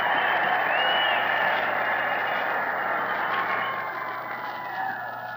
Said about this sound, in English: Now that the cheering for the President has subsided, I will conclude by saying that this vast assemblage inside the stadium and the 150,000 people who marched on foot to this meeting and are now unable to get inside constitute the best evidence